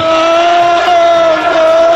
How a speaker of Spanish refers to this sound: Ahí escuchamos el grito de los seguidores del Liverpool y efectivamente el Poli Rincón, que se ha hecho con las baquetas del batería de ….